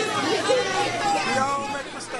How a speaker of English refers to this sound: So you hear some people in the crowd booing him, and another one who said we all make mistakes, you know, kind of saying it's all right.